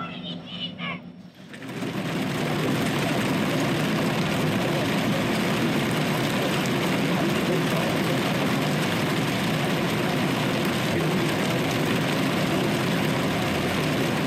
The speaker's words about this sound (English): These are two helper engines. They just helped push one of those big trains up the curve. They're now heading back down to Altoona, to their home base in Rose Yard, where we were this morning.